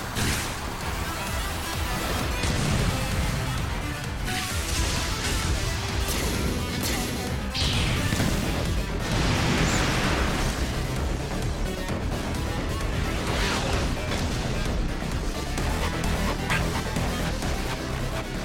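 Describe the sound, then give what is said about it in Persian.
Loud, continuous battle noise of fireball cannon blasts as a prototype is tested against it, with repeated booming blasts and crashing impacts, dense and chaotic throughout, with no clear pauses between hits. “مجبورم همین الان این نمونه آزمایشی رو امتحان کنم. ببینم در مقابل توپ آتشینم چند مرده حلاجی.”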